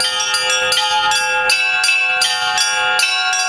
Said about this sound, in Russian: Удар в колокол – это все. Я не учился никогда на звонаря, просто у нас не было звонаря в храме. Вот, и батюшка просто как бы благословил, надо же кому-то звонить. Он говорит, ну давай попробуй хоть как-то там благовест.